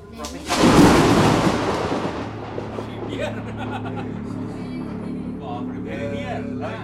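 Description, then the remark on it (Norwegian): A sudden, loud crack of thunder as lightning strikes a small hut built of clay and sticks during heavy rain under large dark clouds, then decays into a long, low rumble that lingers at a steady level for several seconds. “Og mens jeg sitter der og prater, så lyner tornene, og så slår lynet ned også, i hytta.”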